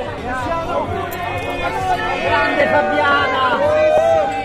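A steady wash of overlapping voices from an older happy hour crowd drinking Prosecco at a bar near Piazza Navona, many conversations blending into a continuous, even-level hubbub with no single speaker standing out.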